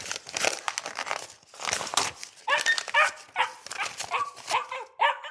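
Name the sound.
dog barking and whimpering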